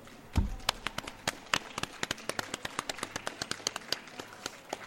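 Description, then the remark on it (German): Scattered applause from a small group at a short book reading, with sharp, irregular hand claps that keep a brisk, steady pace for several seconds at a modest volume, without any voices over it. “Du hast das fantastisch gemacht und ich finde, das verdient einen großen Applaus.”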